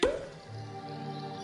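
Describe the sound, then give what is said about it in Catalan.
A single hollow pop as a cork is pulled from a bottle holding a message, a quick resonant plop that fades into a quiet, steady background hum. “Destapa.”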